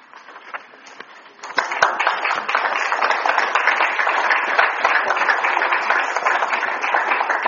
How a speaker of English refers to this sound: Clap after every poem.